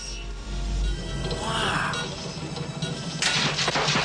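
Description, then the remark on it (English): Busy mechanical whirring and rattling build up as a machine extends a mechanical hand, then a sudden swat as it knocks a magnifying glass away and a bright crashing break as the hand snaps off. “It extends a mechanical hand which swats the magnifying glass away. The hand breaks off.”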